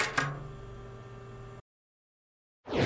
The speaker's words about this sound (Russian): Откройте дверь, пожалуйста.